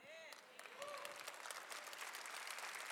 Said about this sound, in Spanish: ¡Ah! Momento que estás aplaudiendo